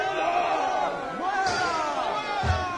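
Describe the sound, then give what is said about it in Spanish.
A dense crowd of townspeople shouting and clamoring at once as they follow behind soldiers carrying Paul up the steps to the fortress: a continuous, steady roar of overlapping cries with a low thud near the end. “Al llegar a las gradas, aconteció que era llevado en peso por los soldados a causa de la violencia de la multitud, porque la muchedumbre del pueblo venía detrás gritando.”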